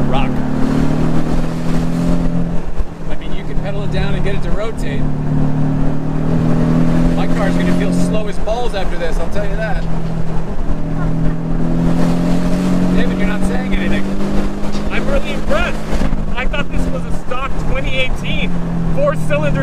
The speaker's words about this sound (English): It is a four-cylinder turbo, but they must have...